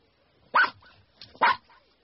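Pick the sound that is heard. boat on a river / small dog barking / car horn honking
small dog barking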